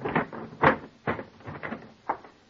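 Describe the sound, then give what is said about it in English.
A trunk lid being shoved shut after a hairbrush caught between its edges at the bottom is pushed back in: a run of six or so dull, irregular thuds and clunks over a couple of seconds, moderately loud, with no voices. “I grabbed at it, shoved it back in.”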